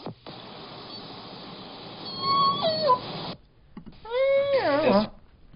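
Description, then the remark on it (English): Two drawn-out orca S1 calls from the J-Pod, each a harmonic, slightly buzzy whistle that bends and drops sharply in pitch at the end, heard over a steady underwater hiss with a short pause between. “So if you hear this call, the S1 call, you're likely listening to J-Pod.”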